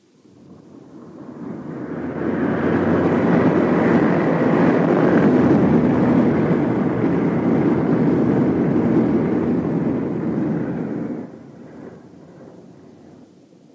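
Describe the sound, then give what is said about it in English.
A loud, steady roar of a large aircraft, the last plane landing, builds and holds for about ten seconds, a broad rumbling wash, then drops off sharply to a lower fading hum as it comes down. “That's the last plane down, sir.”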